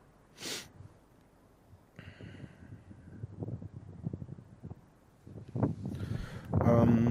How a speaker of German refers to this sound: Es ist windig, es ist kalt, es ist nass und ich sitze draußen.